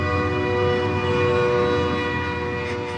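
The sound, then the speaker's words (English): A train rumbles past on train tracks that run along a road, its horn sounding a long, steady blare over the heavy, continuous roar of the wheels on the tracks, with no voices. “Elena lives in a small house across the train tracks that go along the road.”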